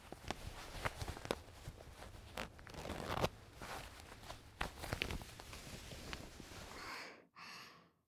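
A teacher's trouser zipper is pulled open amid rustling fabric, with scattered ticking clicks and a louder rasping burst midway, all fairly quiet and without any voices, ending in a short pause and a final swish.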